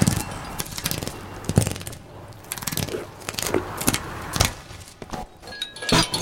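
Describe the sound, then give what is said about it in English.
A stick is run along a fence at a park to attract the giraffes' attention, making a long series of hollow wooden clacks and knocks in uneven bursts, some louder than others, with no one speaking. “On the way to ride on the giraffes, he ran a stick along the fence to attract their attention.”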